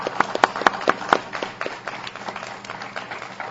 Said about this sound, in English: Let's give these two candidates a round of applause.